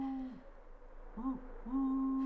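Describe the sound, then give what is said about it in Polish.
A low, wavering hoot of a tawny owl at night in a large, dark forest, drawn out with a few sliding pitch bends, heard steadily on its own against a quiet night background. “Noc go w tym lesie zastała, sowa błyska oczami, puszczyk pochukuje.”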